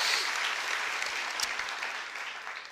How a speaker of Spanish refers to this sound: Gracias por sus aplausos.